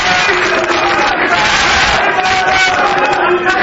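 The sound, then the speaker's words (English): A large crowd roars and cheers continuously, many voices blending into a loud, dense wall of sound that holds steady throughout without any pause, as Pakistan's new president signs the presidential oath, the crowd praising his late wife Benazir Bhutto. “As he signed the presidential oath, the crowd erupted with cheers praising his deceased wife.”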